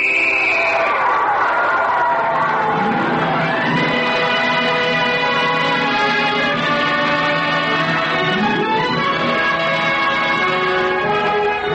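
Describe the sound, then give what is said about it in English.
A football crowd cheers in a loud, continuous roar, with sliding horn-like or whistling tones rising and falling through the din. “America, the football game.”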